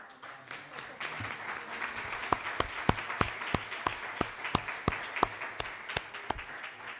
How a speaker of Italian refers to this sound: Di solito qui non si applaude, però mi sembrava è giusto, questa volta lo strappo alla regola ci vuole.